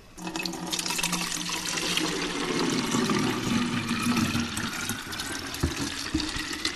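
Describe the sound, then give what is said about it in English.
The rest of a drinking-water bottle is poured steadily into a car's filler opening in Surat, Gujarat, India, a continuous splashing gurgle lasting several seconds with a rising hollow tone, then tapering off. No one speaks. “He takes a drink from the water bottle and then pours the rest into his car.”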